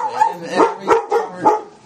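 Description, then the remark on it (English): A dog barks three or four times in quick, uneven succession, loud, with someone talking underneath, interrupting a conversation. “The dog interrupts.”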